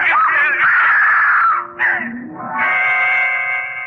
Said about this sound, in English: Scream brought me back to reality.